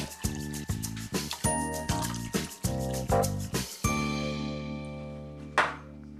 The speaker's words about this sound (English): when you gave me this glass of water, you let the water run until it got cold.